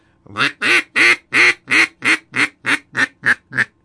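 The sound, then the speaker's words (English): A hen mallard call blown on a wooden duck call: about eleven loud, nasal quacks in a steady, evenly spaced run that gradually softens and shortens toward the end, with no talking. “Now down the road, we'll get into a hen mallard call that's just irresistible to Drake Mallards.”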